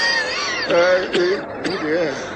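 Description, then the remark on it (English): A man coughs in a few harsh, throaty bursts, fairly loud, mixed with strained voiced groaning sounds between the coughs. “that's a nasty cough you've got”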